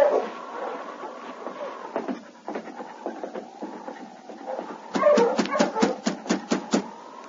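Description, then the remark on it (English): A team of sled dogs with a black lead dog, out in front of a building, whimpers and whines in wavering, high-pitched cries, then breaks into a quick run of sharp, loud barks near the end. “There's a dog team out in front.”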